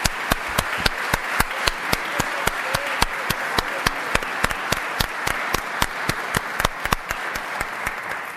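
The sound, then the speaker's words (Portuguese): Sustained audience applause fills the whole stretch, a dense wash of many hands with sharp, evenly spaced claps standing out in a steady, almost rhythmic beat. No voices are heard. The applause is for teacher Glória de Matos, who is in the audience. “Eu devo-vos dizer que é uma grande responsabilidade, até porque tenho ali na plateia a minha queridíssima professora Glória de Matos, para quem eu peço uma salva de palmas.”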